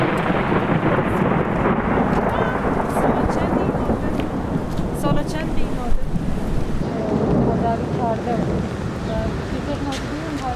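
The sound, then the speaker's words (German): A stormy outdoor scene at the Qadiyya camp just before the next rain sets in: steady, dense rain and wind noise with low rumbling thunder running throughout, while faint voices can be heard briefly in the background. “Kurz bevor der nächste Regen einsetzt, ist Berivan in der Schule angekommen.”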